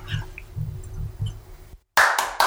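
A single person claps a few times in quick succession, sharp and loud, right after a short silence that follows some low rumbling.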